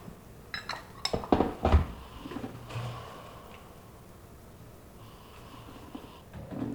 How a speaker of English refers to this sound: So you just filled a porcelain teacup with a lid with some hot water. So this is called gai wan or goi wun in Cantonese. Mm-hmm. Gai means lid, wan means bowl.